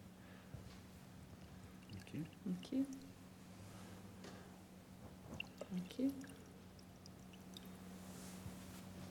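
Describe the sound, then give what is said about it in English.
Water is poured from a jug into cups twice in short, quiet trickles with a faint rising pitch as each cup fills, separated by a pause, with soft low murmuring in the background. “Pour them a sip each.”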